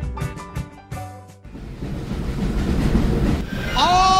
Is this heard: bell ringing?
no